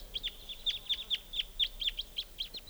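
A flock of birds gives a steady stream of short, high, sharp chip calls, a dozen or more overlapping in quick, uneven succession over faint background hiss, with no talking.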